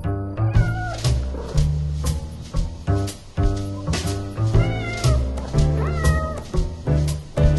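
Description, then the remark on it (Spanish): A few drawn-out cat meows ring out over a bouncy, rhythmic music track as a song about a cat begins, the cries rising and falling in pitch at scattered moments. “Aquí está el gato que tropezó.”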